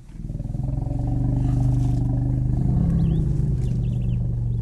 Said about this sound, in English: Elephants can feel this kind of low rumbling from miles away, and researchers have long wondered how exactly they do it.